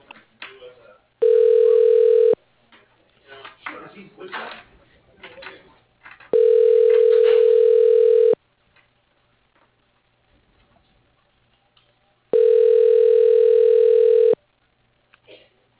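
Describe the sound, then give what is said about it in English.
A phone line rings back three times while a call is being transferred to an office phone, each steady electronic tone lasting about two seconds with several seconds of quiet between. Faint background noise fills the gaps. “Can I connect you to his office phone?”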